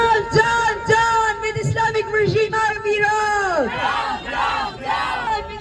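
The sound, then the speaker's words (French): A large crowd at a Berlin protest rally in support of Mahsa Amini, attended by about 80,000 people, shouts in unison, a sustained chanted cry that holds steady and then breaks into rising, ragged yells, loud and dense throughout with many voices overlapping. “Manifestation de soutien à Mahsa Amini à Berlin qui a réuni 80 000 personnes peu de temps après la mort de cette jeune iranienne kurde.”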